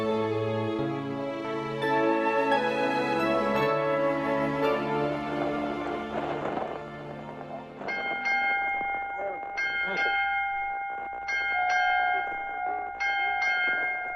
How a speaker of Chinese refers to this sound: 听到这巴西亚钟声，代表又到了天籁之音的时间了。